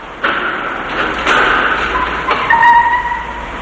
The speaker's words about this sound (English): a black Mercedes turns, showing Brian driving and Carrie sitting next to him. They pull into a parking garage.